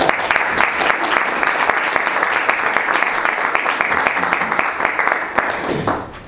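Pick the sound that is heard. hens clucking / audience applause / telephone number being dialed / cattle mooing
audience applause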